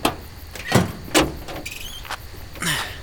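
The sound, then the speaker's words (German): A vehicle with an engine that sounds like a truck's rolls in and comes to a stop after its headlights are switched off. Its low engine rumble is joined by a few short mechanical clunks and squeaks, with no voices. “Dann wurden die Lichter plötzlich ausgeschaltet und der Wagen stoppte.”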